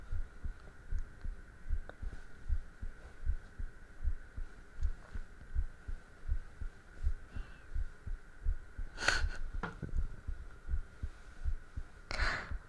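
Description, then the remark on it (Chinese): A quick, steady heartbeat thumps in low, muffled pulses, roughly one and a half beats per second, over a faint constant hum, with a couple of brief brighter swishes near the end. “所以说，我那时候每次见到你心跳那么快，到底是喜欢你还是因为紧张啊？”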